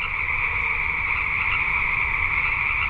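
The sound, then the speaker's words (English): A dense, continuous chorus of chorus frogs croaking together at night in a wetland in spring, a steady overlapping trill filling the air with no pauses, over a low background rumble. “Their home and garden overlook a wetland that in spring becomes an amphitheater for chorus frogs at night.”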